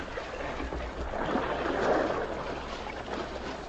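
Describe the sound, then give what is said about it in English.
A canoe glides through water while passing through a canyon, with a steady rushing and swishing of water around the hull, swelling slightly midway. No voices are heard. “They made the passage through the canyon safely, and then came a stretch of quiet water.”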